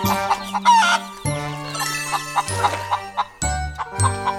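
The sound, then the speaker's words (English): Hen clucking in quick, bright bursts over a layered musical background with sustained tones and light tinkling, the clucks fairly loud throughout. “And now I'm stuck too! Said the poor muddy hen.”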